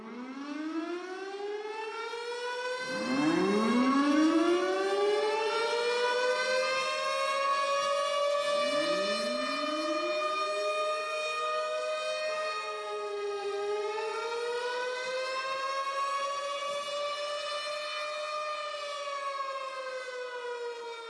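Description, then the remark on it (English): A loud outdoor tornado warning civil defense siren wails continuously, its pitch sweeping up and down in long rising and falling cycles, with a rich harmonic drone and no voices. “But then there were those sirens. Here you go. If you've never heard the sirens, watch this.”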